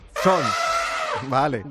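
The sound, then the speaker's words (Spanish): A voice imitates elephant trumpeting, presented as the statements of the last four elephants working in circuses in Denmark: one long, loud, brassy wail that rises and then holds, followed by two shorter, lower honks with wavering pitch. “Estas son las declaraciones de los 4 elefantes, que son...”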